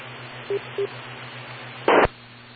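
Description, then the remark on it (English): Two short telephone dialing tones beep in quick succession over a steady low hum and faint radio hiss, then a brief loud burst of static cuts in. “Phone call.”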